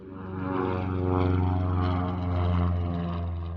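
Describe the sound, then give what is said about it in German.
A propeller airplane engine drones steadily, a loud, continuous hum with strong low tones that swells slightly and holds as the aircraft taxis at an airport to its parking position. “Die Einweiser, die lotsen den Piloten mit seinem Flugzeug auf den Parkplatz und zeigen ihm seinen letzten Anhaltepunkt.”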